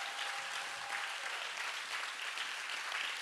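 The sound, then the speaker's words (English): Steady crowd applause at a church campus for the volunteers, many hands clapping in a dense, continuous patter, holding at an even level throughout with no voices standing out. “Let's give these people a huge round of applause.”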